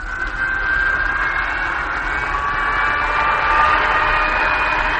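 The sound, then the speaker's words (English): A loud, steady machine roar with a thin, high whine rising slowly through it as the number one cyclotron in an engine room is fired up, like a sci-fi cyclotron powering up. It is continuous, with no voices. “Fire up number one cyclotron.”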